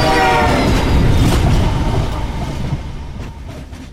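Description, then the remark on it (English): An oncoming train with a cattle catcher rushes by on railroad tracks with a loud, sustained horn blast at the start, its heavy rumble and rattling wheels filling the air before gradually fading as it moves away. “The oncoming train had a cattle catcher.”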